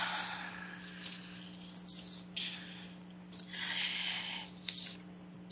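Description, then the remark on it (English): After a deep breath in, a person slowly breathes out through the mouth: a soft, airy, quiet breathy hiss that rises and fades in a few gentle waves over a faint steady hum. “And I'm taking another deep breath in and slowly breathing out through my mouth.”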